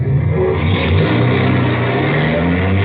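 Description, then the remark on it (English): A car engine roars loudly for a few seconds, a steady throaty rumble as the vehicle pulls away, with no voices. “Starting the car.”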